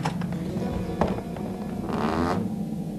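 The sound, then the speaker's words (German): A door is opened: a sharp click of the latch, then a brief scraping swish as it swings, over a steady low background hum. “Also, warte, ich mach mal die Tür auf.”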